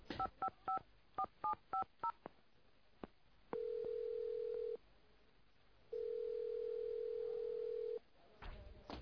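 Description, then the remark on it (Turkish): A phone keypad beeps out a quick series of dual-tone button presses, about nine short tones, as someone dials to call for an ambulance, followed by two long steady ringback tones with a pause between them, all fairly clear. “Telefon. Telefon neredeydi? Buldum.”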